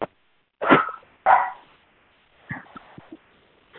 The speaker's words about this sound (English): I hear your babies in the background. Yeah, I think my dog has cornered a critter or something, so he's barking at it. They bark at all kinds of things, lizards, roaches, you know, bugs.